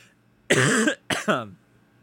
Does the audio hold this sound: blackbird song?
no